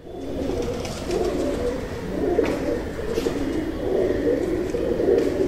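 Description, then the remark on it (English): Rock pigeons coo steadily in low, rolling murmurs, several birds overlapping into a continuous soft burble, moderately loud throughout. “These guys court each other with gentle coos, and to signal distress, they use a harsh grunt.”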